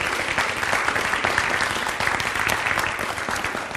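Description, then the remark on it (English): Steady, dense applause from a church audience for the church's pianists, a continuous crackle of many hands clapping at a fairly loud, even level throughout, with no voices rising above it. “Just a big round of applause for our incredible pianists.”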